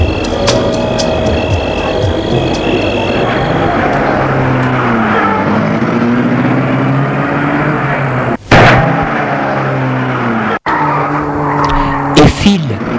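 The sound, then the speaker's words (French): A man starts a red Ferrari touring sports car to drive home. The engine roars loudly, its pitch climbing and falling as it revs, with squealing tyres and a couple of sharp bangs toward the end. “Il va prendre sa Ferrari rouge de tourisme pour rentrer chez lui, enfin chez son père, et met la voiture en route.”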